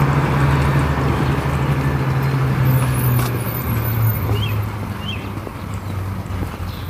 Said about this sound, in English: Oh, here's the school bus. Must be earlier this morning than I thought.